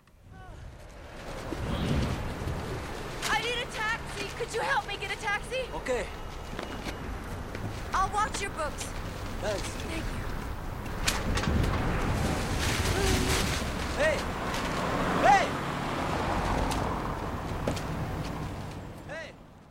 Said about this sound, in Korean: 바로 그 장면, 이 영화의 오프닝이기도 한 그 세찬 바람소리 듣고요.